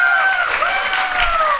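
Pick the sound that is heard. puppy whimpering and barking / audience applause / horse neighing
audience applause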